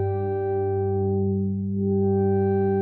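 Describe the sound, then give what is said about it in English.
A steady, buzzy synthesizer drone plays alone as a filter control is adjusted in real time, closing to dull the upper brightness to a muffled hum midway, then opening again so the bright, sharp overtones return. “On the right-hand side, we've got controls like attack, release, adding reverb in there, a limiter, a filter, which is rather handy. Have a listen to that.”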